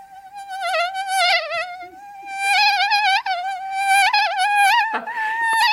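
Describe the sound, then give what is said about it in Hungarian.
A person mimics a mosquito with a high, thin, whining hum. It is fairly loud, continuous for several seconds, and wavers and swoops in pitch like a circling insect. “Amit én a legjobban szeretek, az a szúnyog, az szintén saját szabadalom.”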